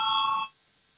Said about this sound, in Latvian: Lūdzu, zvanu, balsosim par piekto finanšu ministra Reira priekšlikumu. Lūdzu, balsosim.